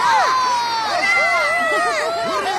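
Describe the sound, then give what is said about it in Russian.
A crowd of spectators at a forest animals' sports contest shouts and cheers joyfully as the judges come out to the judges' tables, many overlapping high-pitched voices whooping and calling out at once, loud, sustained throughout without pause. “Под радостные крики зрителей к судейским столикам вышли Кука, неизвестная лошадь в резиновой шапочке, Хрюня, Ворон, наследник музея, и Фуфу.”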